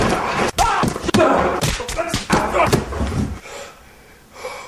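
Several heavy punching thuds to the face land in quick succession, loud, breaking a nose, mixed with strained grunts and vocal effort, then the scuffle trails off into quieter breathing.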